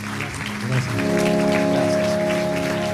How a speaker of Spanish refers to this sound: Gracias, Dios. Le damos el aplauso, gracias, Señor.